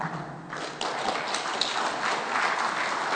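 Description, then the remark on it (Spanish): Continuous audience applause for the cast at the end of a show, a dense, steady wash of many hands clapping at a moderate level for the whole stretch, with a few sharper individual claps standing out and no voices. “Alma Ruiz como Demonio Rojo de Set. Un aplauso al final.”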